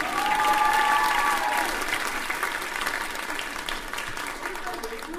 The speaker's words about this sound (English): Here we go. Come on, give me a cheer.